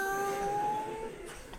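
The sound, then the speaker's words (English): A person imitates a cat with one drawn-out, whiny meow lasting about a second. The voice is fairly clear, its pitch sliding slightly downward before it fades. “She's just like, meow.”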